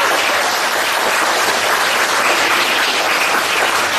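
An audience applauds steadily for about four seconds, a dense, even wash of many hands clapping at constant loudness with no voices over it.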